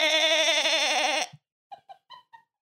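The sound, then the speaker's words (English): A person imitates a goat with one long, loud, wavering bleat lasting over a second, followed by a few soft, brief sounds after it cuts off. “I make a really good goat noise.”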